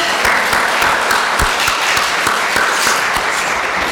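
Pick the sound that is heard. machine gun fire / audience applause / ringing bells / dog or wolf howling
audience applause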